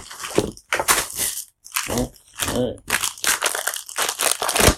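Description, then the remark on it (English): Someone opens a vacuum-sealed package holding a book, taken from a damaged box, with a run of loud, irregular plastic crinkling and crunching bursts, separated by short pauses, continuing steadily throughout. “So I'm going to open up the damaged box first and see what I can see if everything is okay in that box.”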